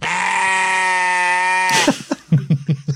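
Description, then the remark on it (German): A loud, sustained sheep bleat, used as a censor bleep over a spoken word, with a wavering, nasal tone holds for nearly two seconds, then breaks into a quick series of short, choppy bleats. No one talks over it. “Du kannst es ja sagen und dann piepsen wir es weg. Mit einem Man von einem Schaf.”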